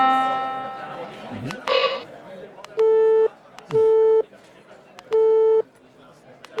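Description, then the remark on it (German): Electronic alert tones from a device with speech output and selectable sounds: a ringing, gong-like chime fading out, a quick water-drop blip, then three separate steady beeps spaced about a second apart, fairly loud. “Ich mache jetzt was anderes. Ein Tropfen, ein Gong.”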